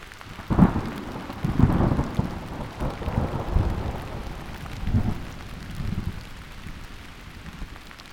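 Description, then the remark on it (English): Steady rain from a thunder shower falls and patters across the whole recording, with low rumbles of thunder rolling in and out beneath it, on sandy back roads near the upper reaches of the Sopchoppy River. No voices are heard. “With rain falling all around, we explored the sandy back roads and soon stumble upon a primitive campground along the upper reaches of the Sopchoppy River.”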